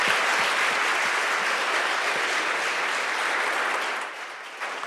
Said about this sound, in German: Ja, der Applaus gehört Ihnen.